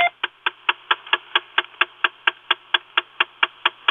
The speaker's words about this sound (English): Weeks ago, I turned off the ignition, and a clicking sound started under the dashboard, and it lasted about 20 seconds, and I turned the ignition back on, and it came back on again. I have a recording of it here that I can play for you.